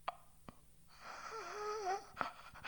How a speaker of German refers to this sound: Hecheln, röcheln.